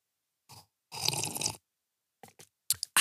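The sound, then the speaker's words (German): A slurping sip of mulled wine from a glass, one short sip then a longer noisy draw, followed by a few quick wet swallowing and lip-smacking clicks. No talking. “Ich trinke mal kurz einen Schluck von meinem Glühwein.”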